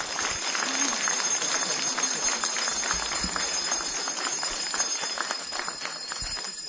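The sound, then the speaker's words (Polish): A crowd at a rosary prayer gathering before Mass claps steadily and warmly to welcome guests while small bells jingle continuously over the applause, a bright ringing layer above the dense patter of hands, sustained for several seconds. “Przywitajmy ich raz jeszcze gorącymi oklaskami i dzwonkami.”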